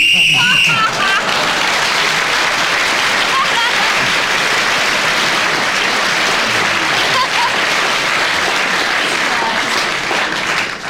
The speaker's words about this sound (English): Anyway, you got the point for speaking when the whistle went.